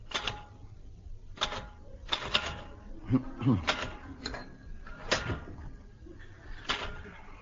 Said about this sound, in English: Hurry up, Kerr. Haven't you finished typing out those invitations yet? Don't rush me, don't rush me.